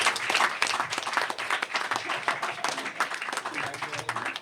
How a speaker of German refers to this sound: Applaus.